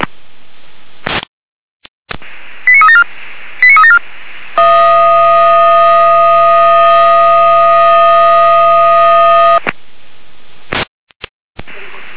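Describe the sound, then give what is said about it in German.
Fire brigade radio alert tones for a follow-up alarm in Weimarer Land, over a narrow, crackly channel: two quick bursts of stepped beeps, then a loud, steady buzzing tone held for about five seconds, with short clicks of static around it. “Weimarer Land mit Folgealarmierung.”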